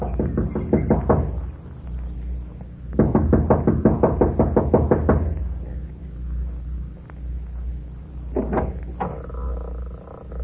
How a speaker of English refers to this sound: gets out of the car, runs up the steps of the lodge to the front door. She knocks impatiently, looking about anxiously.